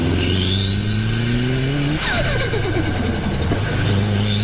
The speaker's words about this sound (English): Hot exhaust spins the turbine wheel. Turbine sucks in more air and sends it straight to the engine. More air plus more fuel equal bigger boom. Bigger boom equal faster car. And that's how this sound comes in.